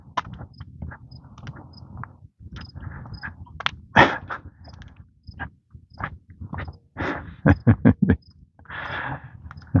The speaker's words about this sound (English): Dog was having none of it. He was going to stand there and give that squirrel hell.